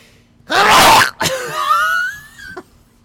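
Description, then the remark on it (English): A single loud, breathy sneeze burst, followed by a drawn-out voiced whine that rises in pitch and cuts off with a short catch. “It's like you sneeze with your eyes open.”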